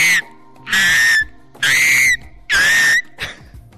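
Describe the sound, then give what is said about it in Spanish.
A person imitates an eagle's cry with three loud, shrill, whistle-like screeches, each lasting about half a second with a slight pitch rise, followed by a fainter fourth attempt. “Luego, un águila.”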